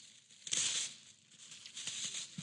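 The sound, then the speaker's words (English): Wrapping paper rips and crinkles as it is torn off a gift by hand in two bursts, a sharp tear followed by a longer stretch of rustling, moderately quiet, with no voices. “Tear into this thing. Let's see what's inside.”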